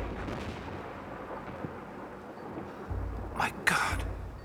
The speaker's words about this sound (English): And that storm is getting closer.